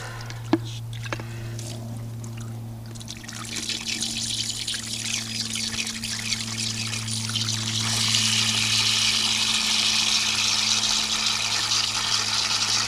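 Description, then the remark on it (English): Drinking water pours steadily into a pan, a continuous splashing rush that grows fuller and louder partway through, with a low mechanical hum running underneath and no one talking. “She brings a pan full of drinking water back inside.”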